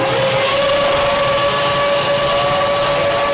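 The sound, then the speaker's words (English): Loud, continuous roar of Formula One racing engines at the start of a race, with a sustained high whine, dense and unbroken from start to finish, no voices. “This is the start of an F1 race.”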